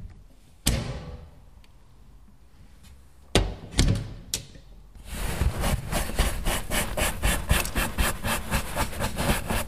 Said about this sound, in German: Ich kehre gerade das Fell aus. Da ist beim Sägen und Feilen sind da die ganzen kleinen Goldteilchen reingefallen.